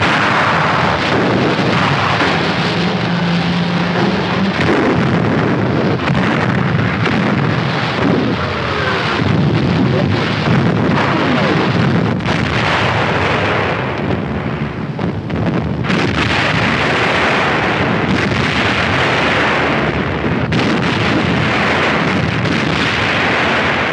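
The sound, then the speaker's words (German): Heavy naval gunfire from battleships roars nonstop, loud, with repeated booming blasts merging into a dense, rumbling wall of noise, as they open fire on the 22,500-ton British aircraft carrier Glorious. Wind and sea hiss underneath, and no one speaks. “Unsere Schlachtschiffe eröffnen das Feuer auf die wertvolle Beute.”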